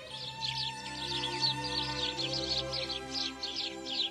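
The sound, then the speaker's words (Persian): Many sparrows chirp together in a busy morning chorus at daybreak as the sky grows light, a dense, continuous layer of short high-pitched tweets over a steady low hum, with no voices. “حالا دیگه هوا داشت روشن میشد و گنجشکا آواز دست جمعی اول صبحشونو سر داده بودن.”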